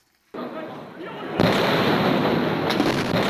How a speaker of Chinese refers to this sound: 天津滨海新区8月12日午夜发生大爆炸，目前的死亡人数已经上升到40多人，其中包括消防官兵，受伤人员超过520人，其中重症病员66人。